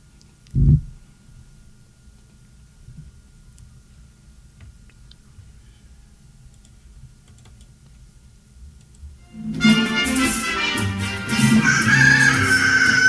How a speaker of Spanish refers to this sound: Piaban los pollitos alrededor de Doña María de las Mercedes, que, cloqueando, arrojaba granos de maíz a sus gallinas.